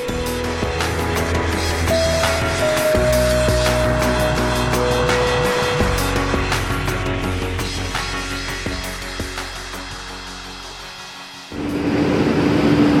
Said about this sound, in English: Sound there, a big truck, Bearcat armored truck, headed into Ferguson last night, Monday night.